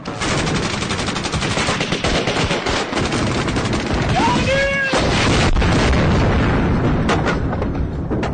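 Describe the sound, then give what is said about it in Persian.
Dense, continuous rifle and machine-gun fire crackles loudly throughout, with rapid overlapping shots and a brief whistling tone midway, like a battlefield skirmish, as soldiers lying on the ground shoot at Iraqi troops. “رضا و مهدی و مجید و سلیمان روی زمین دراز میکشن و به طرف اونا تیراندازی میکنن.”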